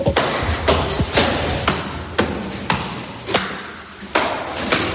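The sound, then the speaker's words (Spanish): Footsteps climbing a staircase to the second floor of a two-storey building in central Málaga, Spain, near Plaza de la Merced: a steady series of hard-soled thuds landing roughly twice a second, each with a sharp tap over a constant background hum, no voices. “Es un edificio de dos plantas y vamos a subir al piso número 2”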